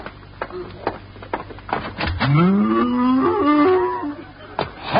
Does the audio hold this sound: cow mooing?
yes